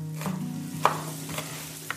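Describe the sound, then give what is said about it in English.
Kitchen cooking sounds: a low steady hum with soft sizzling and a few sharp clinks of a utensil against a pot as borscht, a traditional Ukrainian soup, is stirred and fried by a woman from Ukraine in a kitchen, no voices. “She is making borscht in the kitchen, a traditional Ukrainian soup.”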